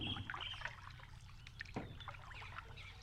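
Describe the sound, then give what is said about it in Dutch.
A song thrush sings a series of varied, repeated phrases, heard over the low drone of a boat moving across water in Klein Profijt, passing under a small bridge into a wild, jungle-like landscape with many fallen trees. “Zanglijster.”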